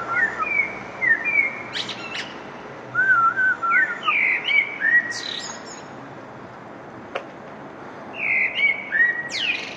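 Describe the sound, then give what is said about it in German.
Several birds chirp and whistle outdoors on a balcony in spring, in repeated bright, warbling phrases, clear over a steady background hiss, with brief pauses between bursts of song. “Ein Vogelgezwitscher, das ist ja schon Biolärm”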